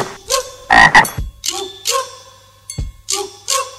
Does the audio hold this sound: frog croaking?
yes